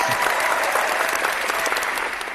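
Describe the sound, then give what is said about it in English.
A steady burst of applause from a group, many claps blurring into a dense, even patter that holds for about two seconds and eases off slightly at the end. No one speaks. “No applause on that one?”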